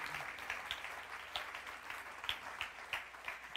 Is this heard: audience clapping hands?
yes